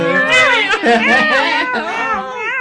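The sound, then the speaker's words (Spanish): A person imitates a cat with a string of drawn-out, wavering meows, voiced fairly loud, the pitch rising and falling continuously for a couple of seconds. “Se me escapan los gruñidos, se me escapan los ladridos, los maullidos, no sabes, es así.”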